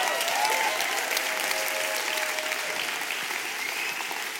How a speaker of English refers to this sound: I would have thought that was worth a better round of applause than that, to be honest.